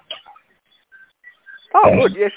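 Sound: dog barking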